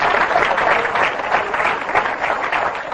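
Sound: church audience applause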